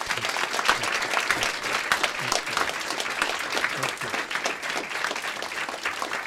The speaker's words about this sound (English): The applause went on and on, but that's more than just a courtesy clap.